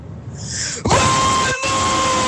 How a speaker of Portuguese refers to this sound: Oh, espera, eu já sei que isto aqui vai estourar os níveis todos. Eu sinto mesmo que este rapaz vai berrar bem. O berro mais hooligan de sempre.